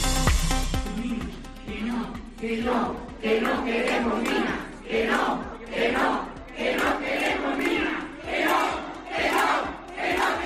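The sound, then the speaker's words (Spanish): A large protest crowd in the Sierra de Gata chants loudly in unison against mining projects of a Galician company seeking to extract lithium and tin, repeated shouted bursts at a steady rhythm of roughly one per second, many voices rising and falling together. “Bueno, pues sin duda es el sonido de las últimas horas, te lo veníamos adelantando aquí en la cadena COPE semanas atrás, que la Sierra de Gata estaba de uñas por varios proyectos mineros de una empresa gallega que pretende sacar litio, estaño,”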